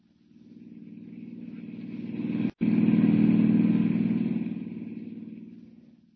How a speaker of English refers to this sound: Hiring a car, Clark Kent heads out at once on the dusty road to San Miguel, 50 miles away.